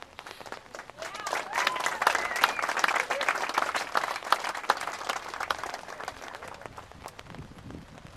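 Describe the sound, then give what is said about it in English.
A crowd breaks into sustained applause, dense clapping building quickly and holding for several seconds with a few cheering voices mixed in, then thinning out toward the end. “That sounds like either applause or fireworks, but I hope it was applause.”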